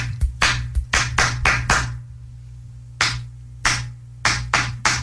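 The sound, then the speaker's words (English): Hands clap out a quick rhythmic pattern of about seven sharp claps, pause, then a second person claps a sparser, somewhat uneven pattern back, trying to match the beat. A steady low hum runs underneath and no one speaks. “I'm going to give you a beat and you match it back, okay?”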